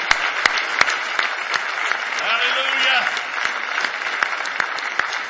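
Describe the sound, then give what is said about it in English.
An audience at a morning church service claps steadily in praise, a dense, bright wash of many hands with sharp individual claps standing out, while voices call out and a pitched shout rises briefly in the middle. “Let's give him a big hand clap of praise if you love him this morning.”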